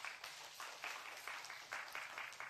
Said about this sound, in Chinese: 阿们的拍手，把荣耀给神。